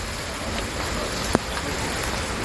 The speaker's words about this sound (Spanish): La lluvia, sin duda alguna, es la, ya lo has escuchado hace un instante, la gran protagonista de hoy en Madrid.